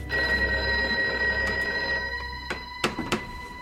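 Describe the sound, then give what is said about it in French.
An old telephone bell rings at the Palais de Villamejor with a sustained metallic jangle, steady and fairly loud, then breaks into a few short bursts as it fades, with no voices present. “Palais de Villamejor, le téléphone sonne.”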